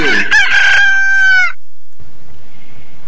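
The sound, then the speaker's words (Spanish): A rooster lets out one loud crow lasting about a second and a half, then it goes quiet, leaving only faint background hiss. “Nos vamos a otro tema, pero antes, el despertar del gallo.”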